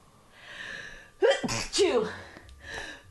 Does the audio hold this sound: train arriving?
no